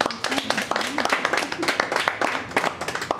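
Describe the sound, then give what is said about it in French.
An audience breaks into steady applause to thank a speaker after their talk, many hands clapping in a dense, crackling patter that stays fairly loud for a few seconds, with faint voices murmuring underneath. “Et puis on applaudir.”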